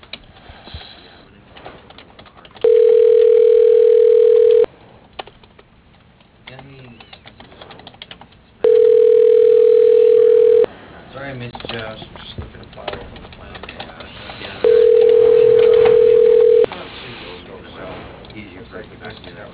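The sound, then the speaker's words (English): A telephone ringing tone repeats three times, each a steady, loud, mid-pitched beep lasting about two seconds with roughly four-second gaps, over faint background clatter and murmuring voices. “Why do these things keep ringing for the fucking...”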